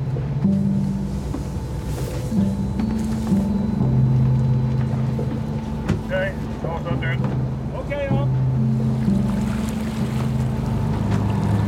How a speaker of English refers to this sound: we're in quite a heavy swell and I'm hanging onto a ladder on the stern of the boat.